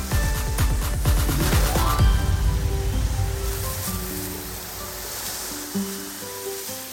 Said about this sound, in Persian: ماشین آتش نشانی هم با تعجب از اینکه آخه اینا چجوری خودشون رو به این وضع درآوردن، با فشار روشون آب گرفت و تمیزشون کرد.